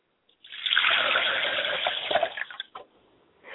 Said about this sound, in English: Still water runs deep, and we know water knows no enemy, it is neutral. I pour libations to all four cardinal directions, and I say libations to the east.